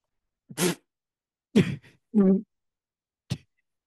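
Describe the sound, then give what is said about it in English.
Four short, separate coughing bursts from a woman coughing on her vape, spaced over a few seconds and fairly loud, the third one rougher and more voiced, with silence in between and no talking. “coughed on her vape.”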